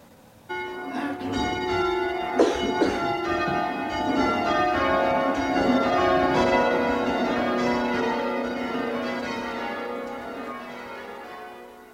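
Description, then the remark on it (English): Church bells being rung up, a dense, continuous wash of overlapping bell tones building from quiet after the first second and ringing steadily and loudly, with no talking. “Right, let's get these bells rung up, shall we?”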